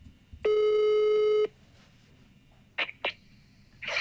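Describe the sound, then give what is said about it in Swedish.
A telephone call tone as a call is placed to a salesperson at HBK in Halmstad: a single steady, buzzy beep lasting about a second, followed by two short clicks and a rising rush of noise at the end. No one speaks. “När jag ringer till en säljare här då.”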